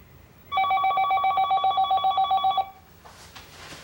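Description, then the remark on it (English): A telephone in a home kitchen rings with a loud, rapid, bright electronic trill lasting about two seconds, followed by faint rustling and handling noise as someone fumbles for the phone. “With her eyes still shut, she crosses the kitchen and fumbles for the phone. It's Robin calling from the plane.”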